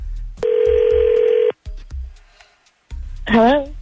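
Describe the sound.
A single long, steady ringback tone hums for about a second on an outgoing phone call made by the hosts of a morning radio show on 102.9 The Wolf, then after a short quiet gap a voice answers on the line.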